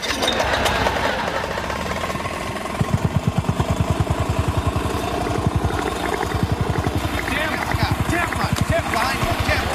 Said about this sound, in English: While Al does that, I'll compact and level the next section using Binford's 6100 power compactor. Normally, you wouldn't use a power compactor on a job this small, but Tim's not normal.